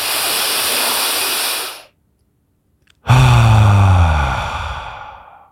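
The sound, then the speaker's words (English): A deep breath: a long, airy inhale, about a second of silence, then a loud sighing exhale with a low voiced hum that slowly fades away. “And in this space, we create meaning for breathing.”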